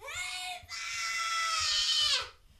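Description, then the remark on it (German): A loud, drawn-out, pitiful wailing scream from a human voice, rising briefly then holding a high, strained pitch for about two seconds, with no other sounds around it. “Da hörten sie einen lauten, jämmerlichen Schrei.”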